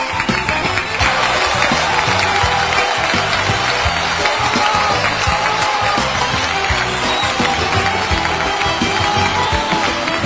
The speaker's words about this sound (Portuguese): Aplausos, Pajezinha! Aplausos, Pajezinha!